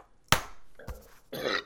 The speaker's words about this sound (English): And burping.